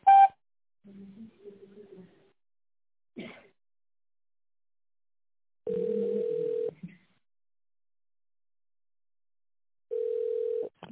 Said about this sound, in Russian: Здравствуйте. Вы позвонили в офис компании «За спорт». Наберите добавочный номер в тоновом режиме после сигнала или дождитесь ответа оператора.